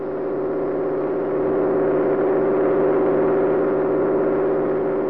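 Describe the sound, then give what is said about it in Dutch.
A small propeller airplane flies low and as slowly as possible over sand, its engine droning and humming continuously with a strong mid-low tone, holding a constant loud pitch throughout with a slight swell after the first second. “Ik ga nu zo langzaam mogelijk vliegen.”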